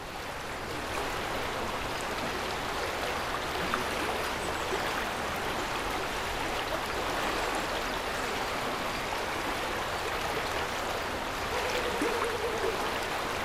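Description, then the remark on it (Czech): Steady rushing of the flowing Bílina river, a constant broad hiss and gurgle that stays even throughout, with no voices present. “Snažím se bílinu slyšet. Občas je tak slabá a malá, že nevydá ani hlásku. Občas zní jako moře.”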